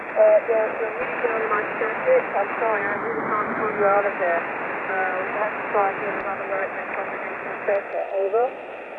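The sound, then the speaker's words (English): Steady hissing radio static fills a narrow, tinny amateur radio channel at night, while a weak, garbled voice of a female operator drifts in and out beneath the noise, never quite intelligible, throughout. “Yeah, she doesn't have a very good copy. There's some static tonight there.”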